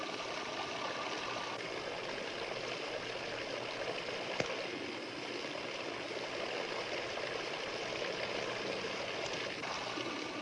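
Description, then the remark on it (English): Continuous trickling water streams pour steadily for the whole stretch in a Kelvin water dropper experiment, a system generating about 20 kilovolts, a dense hiss of falling droplets with one brief sharp snap partway through. No voices. “Kelvin's water drop experiment demonstrates for us that not only does the motion generate the electric field, but that the field also has a strong influence on the motions.”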